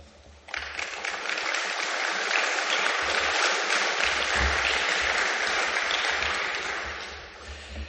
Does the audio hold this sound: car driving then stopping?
no